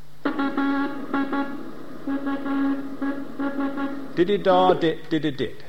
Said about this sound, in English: But then we realised, three revs later, it got a Doppler shift on it. And this is it slowed down. I'll just tell you quickly about that. Those Morse code groups, which we'll play them, you can hear them.